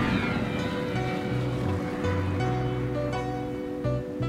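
Ocean surf rushes steadily at a beach in California, a continuous loud roar of breaking waves with a low, humming undertone and no voices.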